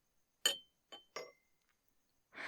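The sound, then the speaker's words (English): Wine glasses clink together a few times in quick succession as a glass of wine is handed over, each bright strike leaving a short ringing tone, fairly quiet, followed by a soft rustling shuffle. “My body's arrived to break the sexual tension and shove a glass of wine in your face.”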